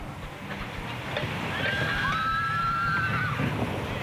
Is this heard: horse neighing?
yes